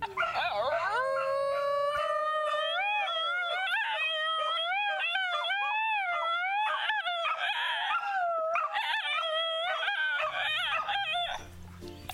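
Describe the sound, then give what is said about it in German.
A Basenji dog, a breed that cannot bark, yodels in one long, continuous warbling howl, its pitch sliding up and down in wavering, bending tones. Loud, it carries on for about eleven seconds without a pause. “Das war ein Basenji-Hund.”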